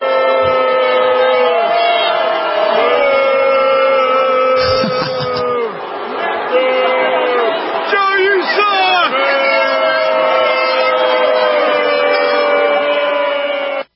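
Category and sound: crowd, stadium crowd booing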